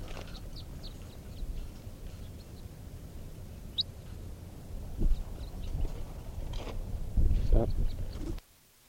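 bird calling

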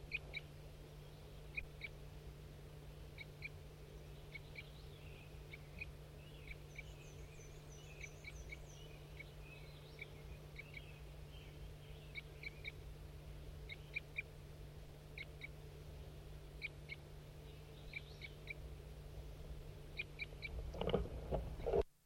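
wild bird calling

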